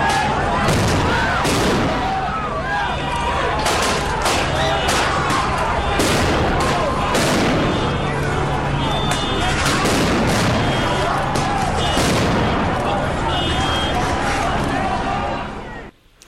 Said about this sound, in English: So those deeper booms you hear, that's a flashbang grenade going off. The ones that the Oakland Police Department used, they're little basically balls of, you know, explosive balls with CSI, with tear gas loaded into them.